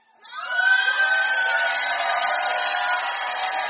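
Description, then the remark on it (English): An audience erupts into sustained shouting as the preacher gives them a minute to shout, many voices rising suddenly and holding a loud, steady roar of cheers and cries without letting up. “Can I give you 1 minute to go up with shouts?”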